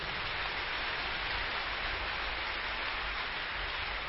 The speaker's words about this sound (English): Church, can we clap our hands for Jesus?